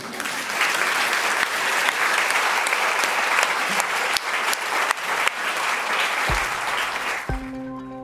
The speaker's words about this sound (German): Schönes Fazit. Und wollen wir einmal klatschen?